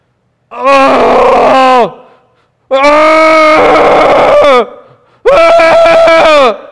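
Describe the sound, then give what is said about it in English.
A person growls like a bear in pain: three long, loud, strained groaning roars, each held for over a second and separated by brief silences, with no other sounds. “Have you ever heard someone in tremendous pain growl like a bear?”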